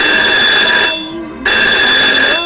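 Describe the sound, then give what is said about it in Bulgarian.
A telephone rings loudly with a bright, steady, high-pitched trill, breaks off for about half a second, then starts ringing again. No voices are heard. It is the telephone of Los Angeles police sergeant Jack Clemens, ringing at 4:25 a.m. on August 5, 1962. “На 5 август 1962 година в 4 часа и 25 сутринта телефонът на сержант Джак Клеманс от полицията в Лос-Анджелис звъни.”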